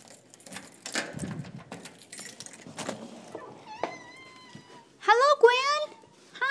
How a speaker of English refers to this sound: And I'm about to unlock my front door, and let's see what she does. Watch her do nothing, but you never know.